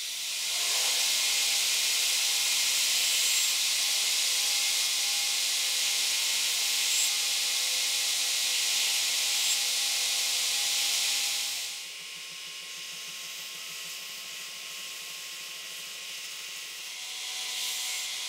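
A belt sander grinds steadily on brass and epoxy, removing material from the brass and bottom layer down to a finished shape: a loud, continuous abrasive hiss that drops after about twelve seconds to a quieter whirring of the running machine. No one speaks.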